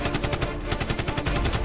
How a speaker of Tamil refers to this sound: அடுத்த சில நிமிடங்களில் அந்த வாகனம் மீது சரமரியாக குண்டு மழை பொழிகிறது. ஒரு கும்பல் ஆம்புலன்ஸில் இருந்த நான்கு பேர் சடலமாக கிடக்கின்றனர். யார் அந்த நான்கு பேர்? பதபதைக்க வைக்கும் இந்த துப்பாக்கிச் சூட்டை யார் அரங்கேற்றியது?